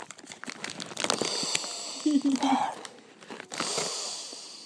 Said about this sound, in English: Why are you doing this weird breathing thing? I'm breathing in the packet. What? Inhaling the cheese.